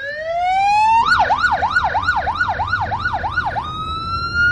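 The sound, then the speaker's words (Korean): A 119 rescue team vehicle, dispatched to carry a person with a broken leg down a mountain, sounds its siren: a rising wail, then a fast warbling yelp repeating about eight times, then a steady high tone, loud over a low road rumble with no talking. “네, 아까 상황극 같은 경우 즉 다리가 부러진 사람을 산 밑으로 이송하기 위해서 아마 119 구조대가 출동했을 겁니다.”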